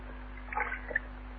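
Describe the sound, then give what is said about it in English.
A brief, soft splash and gurgle as a wrapped object is dropped into a water bucket, followed by a small plop, over a steady low hum with no talking. “All we can do is put it in a water bucket, take it into the alley, and pray.”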